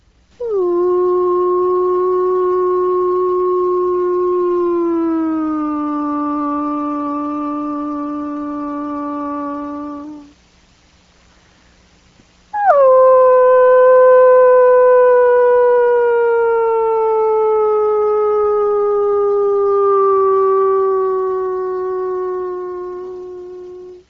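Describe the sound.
Two long, drawn-out human howls imitating wolves during a wolf howling survey, each swooping up sharply then sliding slowly lower over about ten seconds, loud and steady, separated by a brief silence.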